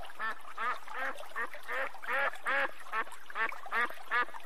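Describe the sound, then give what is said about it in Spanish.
A duck quacks repeatedly in a steady series of about a dozen nasal, raspy calls, fairly close and moderately loud, with no talking. “Un pato que era muy orgulloso se paseaba por la orilla del estanque”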